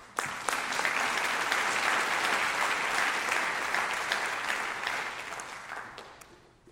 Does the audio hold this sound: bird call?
no